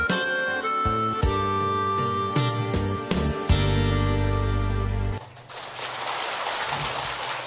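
A song ends on sustained, ringing chords, then about two seconds of steady audience applause follows, a dense crackling wash of many hands clapping at moderate volume.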